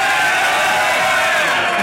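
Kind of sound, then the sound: crowd, crowd cheering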